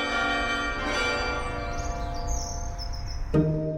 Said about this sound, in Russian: Колокольный звон делается мягче, отрешеннее, колокола продолжают звонить эхом успенской печали и светлой радости. Колокольное эхо аукается с небом и тонет в его прозрачном голубом покое.